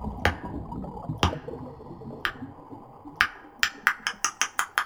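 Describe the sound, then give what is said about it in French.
Echolocation clicks used to hunt giant squid in total darkness: sharp, crisp ticks that start slow, about one per second, then speed up into a rapid train toward the end to sharpen the echo, over a low murmuring background with no voices. “Petit à petit, en accélérant les clics qu'ils émettent, ils vont préciser l'écho et donc la taille, même la texture du calmar, son mouvement, son déplacement.”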